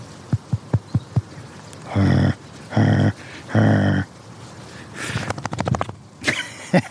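A dog shakes its head outdoors in autumn, its ears flapping in a quick, rattling flurry lasting about half a second. Beforehand come a few soft taps and three sustained, droning vocal tones.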